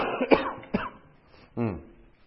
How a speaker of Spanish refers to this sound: Perdón, voy a toser